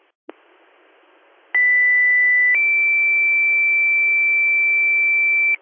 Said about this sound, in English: Can you hit our tones again for manpower, please? Troopsburg for manpower.